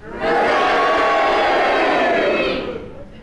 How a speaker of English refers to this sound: I think the cheers got it, don't you?